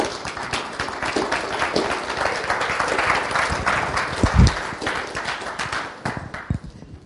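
A crowd applauds steadily for about seven seconds as a speaker is brought up, a dense wash of many hands clapping at an even, fairly loud level that thins out slightly toward the end.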